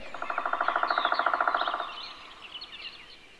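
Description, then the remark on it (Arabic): A woodpecker hammers a tree trunk with its beak, at least 10 times per second, in a fast, even burst of about twenty taps lasting under two seconds, followed by faint, high bird chirps. “طائر ينقر جذع الشجرة بمنقاره 10 مرات في الثانية على الأقل، وهذه السرعة لا تضر دماغه الصغير بسبب وجود عضوين في رأسه لدفع الضربات.”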